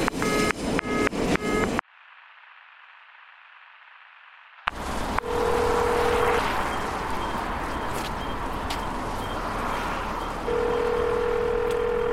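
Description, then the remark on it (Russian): A quick run of three phone keypad beeps, then a hollow line hiss, followed by steady electronic tones over a loud, rushing background noise. “Сейчас выйду, перезвоню.”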